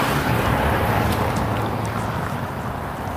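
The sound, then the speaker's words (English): A steady, fairly loud rumble of street traffic from cars, with low engine drone and broad road noise, continuous throughout without any clear single pass-by, and no voices. “We have cars everywhere here.”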